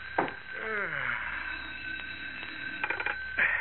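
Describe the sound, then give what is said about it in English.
A telephone on a sheriff's desk in a small police station in Willow Heights rings continuously just after 11 at night, a sustained, shrill tone with a few clattering bursts, while the sheriff lets out a long, drawn-out yawn early on. The sound is thin and narrow, like an old recording. “In Willow Heights, the well-to-do suburb 18 miles from the heart of Metropolis, it is just after 11 o'clock at night, as in his small police station, Sheriff Johnson yawns and reaches for the ringing telephone on his desk.”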